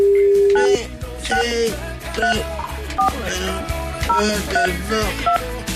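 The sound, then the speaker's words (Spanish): A rapid series of telephone keypad tones beeps out a phone number to call someone, short electronic pairs of notes in quick succession over a steady musical backing, loud. “Entonces, vamos a llamar a la chiquilla entonces.”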